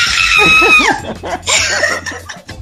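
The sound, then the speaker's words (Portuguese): A woman lets out a loud, high-pitched celebratory scream, holding it for nearly a second before breaking into excited shrieks and yelps, intense. “Solta o grito da garganta, minha filha.”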